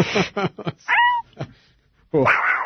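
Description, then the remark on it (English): A person voices a short, drawn-out imitation of a cat's meow as cat noises for a caracal, fairly loud, set between bursts of other vocal sounds and talking. “But I was making you cat noises.”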